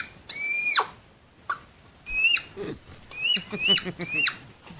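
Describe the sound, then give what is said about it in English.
Hedgehogs by a school in Germany giving a run of high, chirpy, bird-like squeaks with falling pitch, mixed with short snorts and shuffling; about six bursts in a loose, irregular rhythm, fairly loud, no talking. “Sounds like a bird. It's actually hedgehogs flipping pancakes.”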